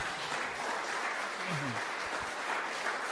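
An audience claps steadily for the full length to thank a speaker, a dense, even patter of many hands at a constant, fairly loud level, with a faint voice-like sound briefly in the middle.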